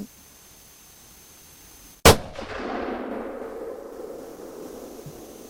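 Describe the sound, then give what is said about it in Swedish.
A single sharp rifle shot, fired at a moose target on a shooting range, cracks out after two seconds of quiet, followed by a long rolling echo that slowly fades across the open range. “När du ska trycka av, då stoppar du fingret i varbyggen och sen kasta inte av skottet utan krama av.”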